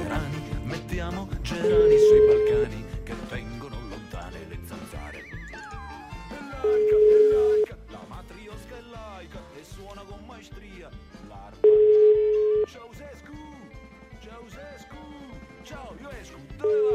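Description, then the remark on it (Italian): An outgoing call's ringback tone on the radio show La Zanzara sounds four times, each a steady one-second beep spaced about five seconds apart, clear and prominent over a busy, lively background of music and sound. “Squilla il telefono della Zanzara.”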